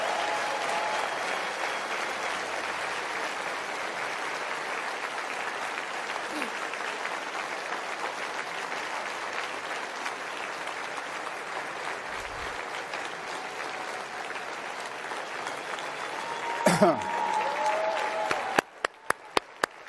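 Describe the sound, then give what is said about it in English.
A large audience at CPAC applauds steadily for about eighteen seconds for the mother of Ashley Babbitt, a dense even wash of clapping that stops abruptly, followed by a few sharp isolated pops. “Well, give her a round of applause anyway.”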